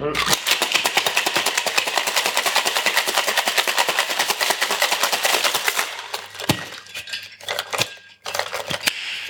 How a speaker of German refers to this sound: So, jetzt gibt es Shake-Geräusche.